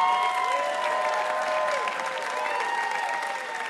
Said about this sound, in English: we would like to give you a Ask Me Another Rubik's Cube and a huge round of applause for being delightful.